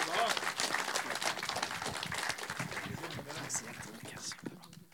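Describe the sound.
An audience applauds with dense, steady clapping that holds loud for a few seconds, then thins and fades near the end, with some voices mixed in.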